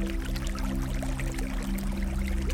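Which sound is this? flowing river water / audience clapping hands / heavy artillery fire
flowing river water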